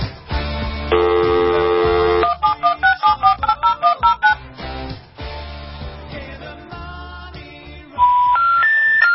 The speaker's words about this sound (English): I'm going to dial a phone number. This is our telephone listen line. Here we go.